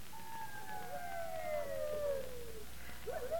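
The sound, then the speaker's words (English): A wolf howls in one long, wavering cry that slowly falls in pitch, then a second howl begins rising at the end, set against a quiet background hiss. “Listen, Neil. Listen. The wolves. They're coming into the village tonight.”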